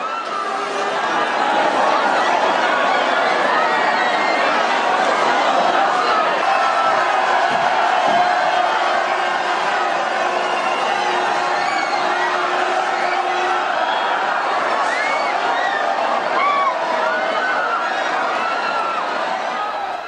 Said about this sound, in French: On se plonge dans l'ambiance au milieu de la foule qui se jette sur les camions remplis de tomates, dans les rues étroites de Buñol.